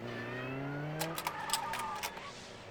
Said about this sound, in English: So that fast-paced car chase that puts us on the edge of our seats is really more like a slow, boring slideshow or PowerPoint for a pigeon.